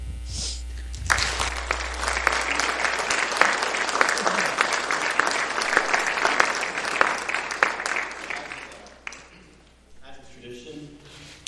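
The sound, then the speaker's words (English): A church audience at Alliance Church breaks into loud, sustained applause lasting several seconds, a dense crackle of many hands clapping, then it fades and a voice is briefly heard as it dies down. “Can we give one more applause?”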